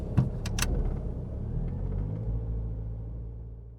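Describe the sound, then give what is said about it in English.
A car engine idles steadily with a deep, continuous rumble, moderately loud, preceded by a few brief clicks and rattles at the start. “So many cars. This one's quite nice. It'll do until I inevitably smash it into someone.”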